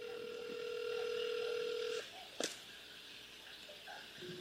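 A steady, buzzy telephone tone hums for about two seconds, then cuts off, followed by a sharp click and faint room noise.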